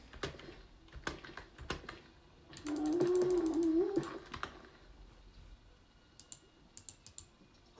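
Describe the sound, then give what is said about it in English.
A drawn-out, wavering cat yowl rises for a second or so in the middle, sounding like cats fighting, while sharp keyboard typing clicks patter before and after. “Oh god, no, that's actually a cat fight.”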